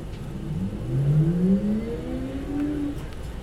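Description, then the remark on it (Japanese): A bus engine pulls away and accelerates as the bus departs, its low hum rising steadily in pitch over a few seconds, heard from inside the bus at a moderate, constant level with no talking. The bus is heading to its final stop, Yokohama Station West Exit. “発車します。お捕まりください。”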